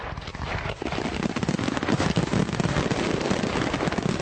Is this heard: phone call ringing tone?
no